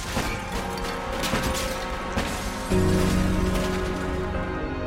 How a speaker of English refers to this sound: The cop and the robber exchange gunfire and fall to the floor.